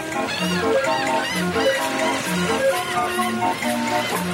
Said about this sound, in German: Das ist eine Franeker Musikbox, eine wunderschöne, typisch niederländische, mechanische Straßenorgel. Und wir stehen gerade an der Gracht.